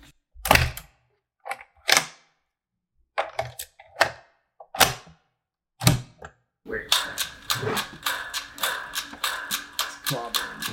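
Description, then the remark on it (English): Sharp knocks of a toy striking an echoing metal table, first in irregular single hits with gaps, then a fast steady run of ringing taps with a sustained metallic tone underneath. “This whole table echoes. Is it because it's metal?”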